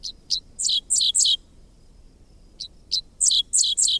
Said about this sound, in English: Along a country road in Kansas on a summer morning, there's a bird on the fence line singing an odd song. Half insect, half sci-fi blaster, this song belongs to a bird called the dickcissel, whose name spells out the syllables of its quirky song.